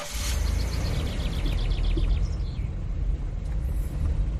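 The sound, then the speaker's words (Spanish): A car engine rumbles low and steady as the vehicle drives off for a drive at about 8 in the evening on 20 June, while a rapid run of high, thin bird chirps sounds over it during the first two seconds. No one speaks. “Tenemos suerte, aún nos queda un ratito de luz antes de que anochezca, así que vamos a dar una vuelta en coche.”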